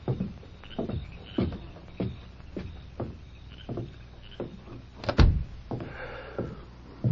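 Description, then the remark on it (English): A door shuts with a solid, close thud near the end, preceded by a series of softer knocks and creaks at a steady pace. No one speaks. “Who was at the door?”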